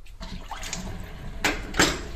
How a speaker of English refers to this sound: Let me drain the sink. Oh, that's hot.